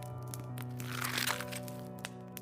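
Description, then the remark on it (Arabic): Crunching, tearing and chewing sounds of a creature devouring a wolf, ripping into its flesh: a dense run of cracks and crackles that builds to a louder burst midway, over a steady low droning hum. “سمعت صوت تقطيع لحم ومضغ بيفترسه، صوت الافتراس سكت بعد شوية، والشيء زمجر ما كانش مبسوط.”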